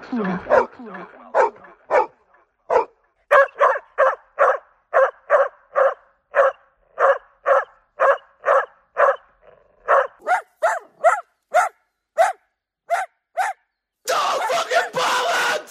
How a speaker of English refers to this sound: Almost like a running gag now, this dog. Don't tell us the story again, man. No. It was barking again today. Yeah, no, at least five times.